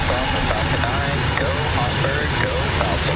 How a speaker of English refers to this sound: SpaceX lit up the early morning skies along Florida's Space Coast. 3, 2, 1. Engines full power and ignition.